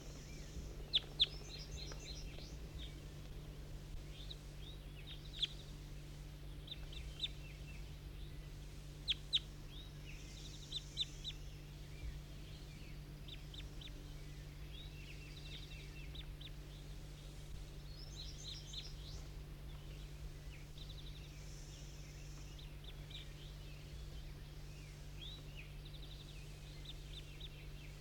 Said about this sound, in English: That was bird 19 calling.